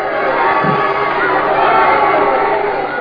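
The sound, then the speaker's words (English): A dense, roaring crowd at a boxing fight cheers and shouts continuously for three seconds as the Marvel lands a savage right to Andrews' chin. It is a loud, steady wall of overlapping voices with no pauses. “The crowd grows wild.”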